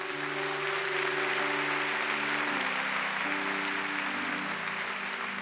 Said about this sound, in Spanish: Porque es capaz no solamente de adorar al Señor, da aplauso al Señor.